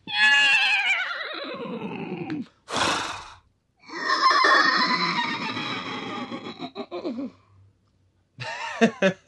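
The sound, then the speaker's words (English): Two people take turns imitating a horse's whinny with their voices: a long wavering neigh, a sharp breathy snort, another drawn-out whinny, then a shorter burst, all loud. “A whinny. Should we do our different versions of it?”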